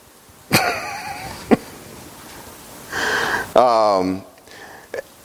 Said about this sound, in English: He coughs a little bit and then he falls silent.